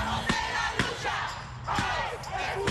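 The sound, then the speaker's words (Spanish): A dense crowd of protesters marches in the heat to the headquarters of US Immigration and Customs Enforcement (ICE), shouting and chanting in support of migrants in a steady loud roar, punctuated by a few sharp, irregular thumps. “Los manifestantes marcharon hasta la sede del Servicio de Inmigración y Control de Aduanas de Estados Unidos, ICE, cantando y gritando a favor de los migrantes.”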